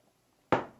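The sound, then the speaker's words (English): After a moment of near silence, one abrupt, loud gulp of water bursts out, broad and wet-sounding, then fades quickly with no speech around it. “don't drink like you're a stevedore at lunch, okay?”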